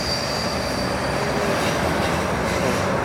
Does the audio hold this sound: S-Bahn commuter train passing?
yes